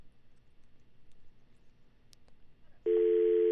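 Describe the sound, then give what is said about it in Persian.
After a stretch of quiet line hiss, a loud, steady electronic telephone tone cuts in abruptly near the end, a busy signal as a radio station's phone call to a guest fails, sounding on its own without any talking. “متاسفانه که تلفن با ما یاری نمی کنه و آقای بدر با خود نداریم.”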